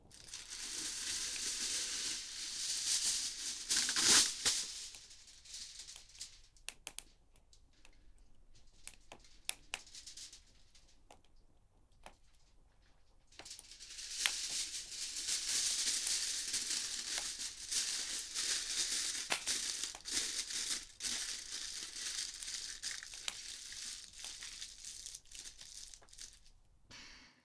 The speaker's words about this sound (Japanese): じゃじゃーん、さつまいも。そう、正解。この焚き火で焼き芋を作っちゃおうってね。これで一石三鳥ってわけ。これをアルミホイルで包んでと。